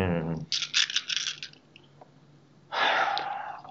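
A double handful of dice is rolled for a game, rattling and clattering in a quick burst of clicks, fairly loud, followed by a soft breathy exhale.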